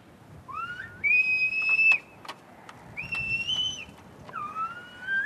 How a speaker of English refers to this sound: It's just like speaking, his dad says. There are people who talk really quickly, and you can't understand them. Slower is better, he says, especially if you need to whistle across a long distance.